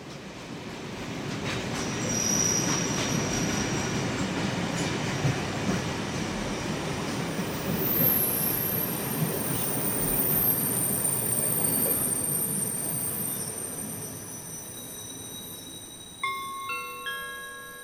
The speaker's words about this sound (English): Stand well away from the edge of platform 4. The approaching train is not scheduled to stop at this station. We're standing on the platform at Peckham Rye Station